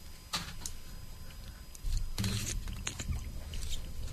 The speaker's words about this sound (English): Slurp in the oyster. Chew it well.